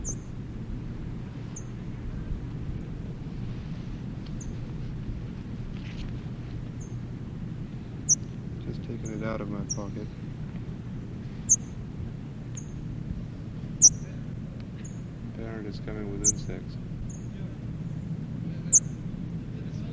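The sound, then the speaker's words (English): Thin, high-pitched chirps from a parrot chick held in a person's hand come every second or two, a few sharper than the rest, with short warbling calls mixed in, all over a steady low rumble of background noise. “Chick is in my hand, chipping.”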